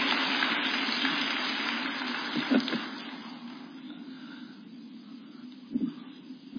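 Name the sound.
audience applause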